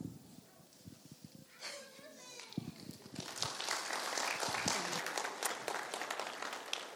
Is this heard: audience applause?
yes